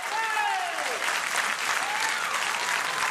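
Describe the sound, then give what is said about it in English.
A crowd cheers and applauds steadily at a public meeting in Hanover County, Virginia, for a speaker who has just scolded an official from the Virginia Department of Rail and Public Transportation; a dense wash of clapping with whoops and shouted voices rising above it throughout. “The cheering is for a speaker who's just delivered a stern scolding to an official from the Virginia Department of Rail and Public Transportation.”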